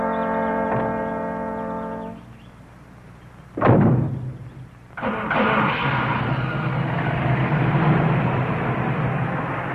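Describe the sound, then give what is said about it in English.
A steady horn-like tone fades out, then a single sharp thud of cars bumping bumpers in a minor collision rings out, followed by loud, continuous rumbling engine or road noise. No one speaks. “No, we just bump bumpers.”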